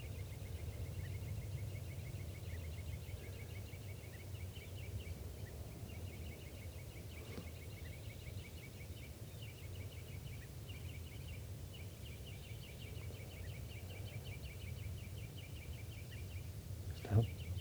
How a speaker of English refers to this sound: Recording, the birds are just perched here for a long time giving alarm calls to each other and now to give you chitter notes.